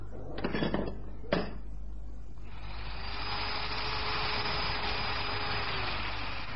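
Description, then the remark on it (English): A few sharp metallic clanks ring out, then a power drill starts up and grinds steadily into a metal safe, a continuous whirring with a low hum beneath it. “Well, now, I guess I'll start with a drill.”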